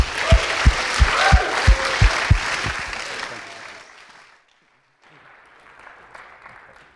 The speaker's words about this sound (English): So I couldn't be more happy to welcome on the stage again, David Malan. Please, big round of applause, David.